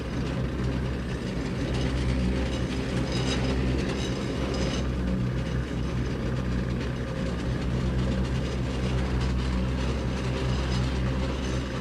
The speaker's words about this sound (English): And that's the old-time washing machine. Turn the wringer off. Turn the motor off. I'm really glad to see that. It makes a lot of noise. This part's wood. That's the wooden part. It's a great machine,